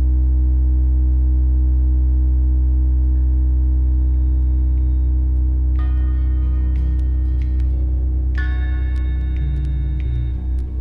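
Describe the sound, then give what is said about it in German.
A loud, steady low-pitched hum drones without a break, made of several deep sustained tones layered together, while faint higher crackling textures surface briefly partway through. “Irgendwann war das dann, ich glaube, es ist ein Samstag, wache ich dann nachts um 3 auf und habe einen unwahrscheinlichen lauten Brummton im Kopf.”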